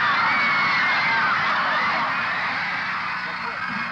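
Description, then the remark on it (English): A dense crowd of teenage fans waiting outside for Ringo Starr screams and shrieks continuously as police officers push back the crush, a loud, high-pitched wall of voices with overlapping squeals that never lets up. “Police officers pushing back the crush of the teenagers.”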